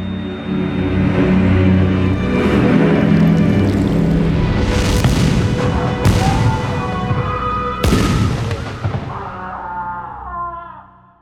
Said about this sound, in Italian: A quel pensiero stringe a sé ancora più stretti i suoi cari e nel silenzio, lontano dagli sguardi e accompagnato dal rombo mortale dei cannoni, sul volto di lui vediamo scendere una silenziosa lacrima.